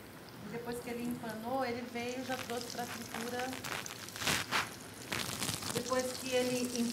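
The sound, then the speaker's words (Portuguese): Food deep-frying in hot oil at about 180 degrees gives a steady crackling hiss, with louder sizzling bursts near the middle, while a person talks over it. “Ele já trouxe para a fritura na temperatura correta, por volta de 180 graus.”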